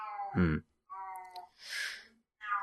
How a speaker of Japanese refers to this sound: うん。うちの、今泣いてるのはうちの富士っていう猫なんですけどね。もうそろそろ3月にね、差し掛かろうかって時ですから。